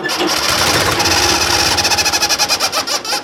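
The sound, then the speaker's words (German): A 1970s tractor engine chugs loudly while a rubber chicken on its exhaust pipe squawks, squeaky calls pulsing in rapid rhythm from the exhaust air, the beats growing more distinct toward the end. “Als Beispiel kann man diese auch aus einem Auspuffrohr eines Traktors aus den 1970er Jahren nehmen.”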